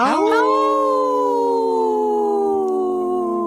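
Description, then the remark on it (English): A person imitates a wolf howl with a single long, loud, sustained tone that slides gently downward and holds steadily for several seconds. “Howl! Oh, good one”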